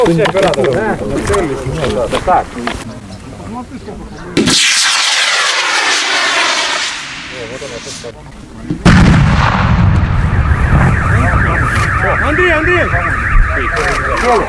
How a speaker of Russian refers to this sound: Это был переносной заряд разминирования «Тропа».